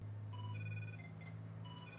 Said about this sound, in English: And we can ring my phone by hitting this button.